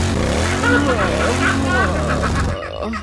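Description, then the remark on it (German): A motorcycle engine sound revs loudly and steadily for about two and a half seconds, then cuts off abruptly. It is a buzzy, slightly tinny roar with rising and falling pitch sweeps. It comes from a motorcycle-shaped novelty wall clock that plays it every half hour. “Eine Wanduhr in Motorradform. Aber pass mal auf, das Beste kommt noch. Zu jeder halben Stunde macht es das hier.”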